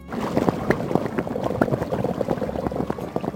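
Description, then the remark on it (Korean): Korean beef and radish soup (sogogi muguk) boiling steadily in a pot, a dense, continuous burble of small popping bubbles and gurgles, moderately loud, with no voices. “아, 국이 끓는다.”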